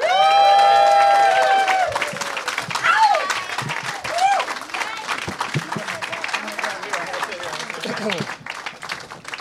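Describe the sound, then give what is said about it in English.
A crowd breaks into loud applause and cheering, opening with a long high-pitched whoop. Dense, steady clapping with scattered shouts follows, fading slightly toward the end. “Please give it up for Dustin Ibarra, Amy Miller, Michael Dowse, and Josh Wolf.”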